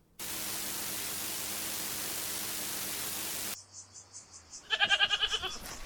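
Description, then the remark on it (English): A steady wash of loud static hiss cuts off abruptly, then after a brief lull a goat lets out a quavering bleat near the end. “When you said school, I pictured more walls and less, Goats, garbage, goat shit.”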